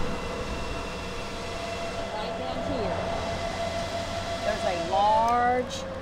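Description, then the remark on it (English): A steady mechanical hum from 24 large black water-producing panels laid in rows outside the Five Loaves and Two Fishes food bank drones under a constant wash of traffic from a nearby road, with a few brief rising and falling whines toward the end. “Outside the Five Loaves and Two Fishes food bank, 24 large black panels are laying in rows out front. You can hear them humming, even with traffic from the nearby road.”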